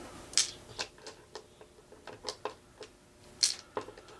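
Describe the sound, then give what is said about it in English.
Dice clatter and tumble in a string of sharp, irregular clicks and taps, with two louder cracks near the start and end. No one speaks. “Ready to roll dice.”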